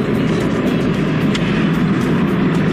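car driving

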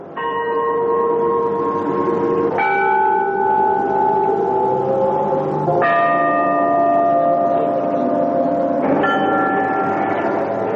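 gethsemane church bells ringing

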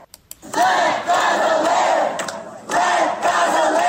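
protest crowd chanting

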